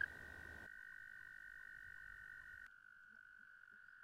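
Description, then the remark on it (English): A male toad's loud mating trill, sung to attract females by inflating its air sacs, a steady high-pitched buzzing drone sustained without a break, unaccompanied by any voices. “Male toads also sing to attract females. They inflate their air sacs and produce a loud trill.”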